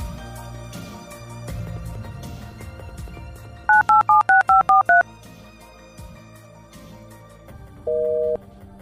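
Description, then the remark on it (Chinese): In the radio drama Rose and Dagger (玫瑰与匕首), a quick run of seven electronic touch-tone beeps as a phone number is dialed, followed by a longer steady tone, all over a quiet musical background with no talking. “打一个电话您自己确认一下怎样？”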